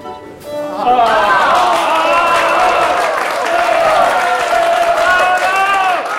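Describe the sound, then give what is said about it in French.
Frenzied audience applause erupts from all sides at the entrance of Captain Fracasse on stage, after a brief quiet start, dense clapping mixed with loud, wavering crowd cheers and shouts that hold steady and strong to the end. “Des applaudissements frénétiques éclatèrent de toutes parts à l'entrée du capitaine Fracasse.”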